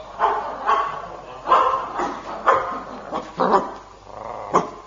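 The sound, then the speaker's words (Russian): A dog, Sharik, barks about six times in sharp, loud bursts at an uneven pace, with short gaps between them and no voices. “Кот и собака помогут нам.”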